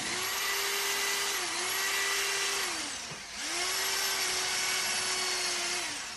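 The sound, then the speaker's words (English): A power drill whines steadily as a man drills an aluminum plate into the wall of a loft in Brooklyn, above a window, in two long bursts, pitch dipping as it bogs down briefly in between, loud with a harsh metallic edge and no talking. “You're listening to a guy drilling an aluminum plate into the wall of a loft in Brooklyn.”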